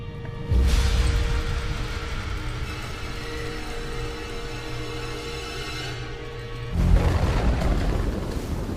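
Deep rolling thunder of a tropical storm booms in suddenly and rumbles on steadily, then a second heavy crack of thunder breaks in near the end over a constant low roar of storm noise.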